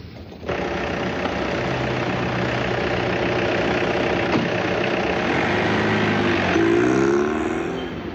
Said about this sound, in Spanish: Un taxi llega a la puerta